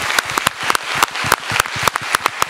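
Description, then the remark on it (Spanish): A crowd applauds steadily at the close of a San Sebastián Film Festival press conference, honoring the Donosti award winner: a dense patter of many hands clapping with sharp, bright transients at a moderate, even loudness, with no voices over it. “Y acabo aquí la rueda de prensa y pido un fuerte aplauso para nuestro premio Donosti.”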